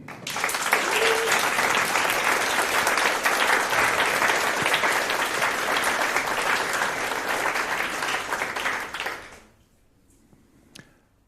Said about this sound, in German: Zeigt euch, dieser Applaus ist für euch.